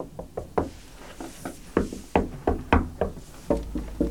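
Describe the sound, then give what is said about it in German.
Repeated knocks on a solid wooden bookshelf, about a dozen dull raps in an uneven rhythm, fairly loud, with no voices, the hollow thuds ringing briefly after each hit. “Ach, hört sich massiv an.”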